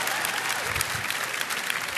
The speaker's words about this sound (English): I knew I could get cheap applause that way.